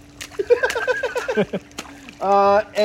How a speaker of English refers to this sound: Well, for those of you who don't know, we are in a pool. We're in a pool. There's trees. You hear the water.